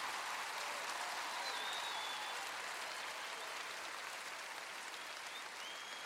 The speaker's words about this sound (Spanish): No, son sus músicos, los músicos hondureños, los que merecen un aplauso y un reconocimiento de parte nuestra. Fuerte ese aplauso.